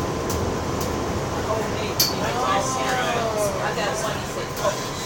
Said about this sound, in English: And here comes an L train above our heads.